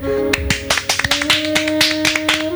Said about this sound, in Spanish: ¡Un aplauso!